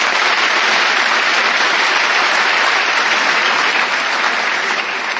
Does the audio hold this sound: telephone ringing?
no